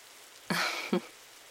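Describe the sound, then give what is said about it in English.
Light drizzle makes a soft, steady patter throughout, faint and even. Midway, a short throat-clearing sound and a brief second catch break over it before the quiet rain continues alone. “The rain still hasn't let up.”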